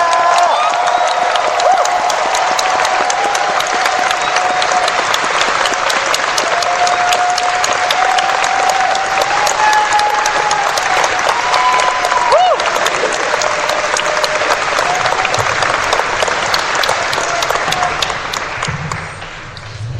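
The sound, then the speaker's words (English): Loud, sustained applause from a crowd at AnthroCon, given for Tiger Wolf, one of the original furries: dense clapping that holds steady for the whole stretch, with a few high whoops and cheers over it, easing off slightly at the very end. “Ladies and gentlemen, all and neither, I would like you please to give us a rouse for Tiger Wolf, one of the original furries.”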